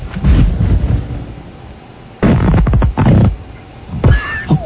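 Loud, low fart noises with no talking: a rumbling sputter, then two long buzzing blasts, and a short squeaky burst to finish.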